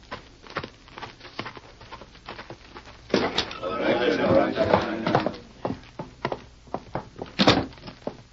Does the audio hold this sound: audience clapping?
no